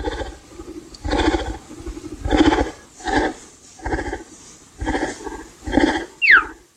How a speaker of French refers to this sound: Voilà. Et ça, c'est le guépard aussi, d'ailleurs, Axel. Actuel, oui. Qu'on entend. Ça couine, un guépard.